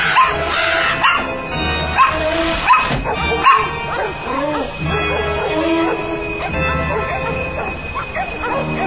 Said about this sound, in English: What is this doggy